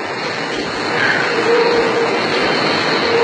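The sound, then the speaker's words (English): A subway train approaches: a broad, steady roar swells louder over the first second and a half, with a faint metallic whine riding on top, and no voices. “Oh, the train's coming.”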